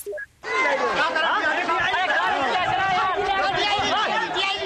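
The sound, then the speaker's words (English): A large crowd in Asia gathered to watch the century's longest total solar eclipse chatters excitedly, many overlapping voices forming a dense, lively babble with occasional laughter, starting abruptly after a brief quiet moment and staying loud throughout. “And you can hear the excitement as the crowds gather.”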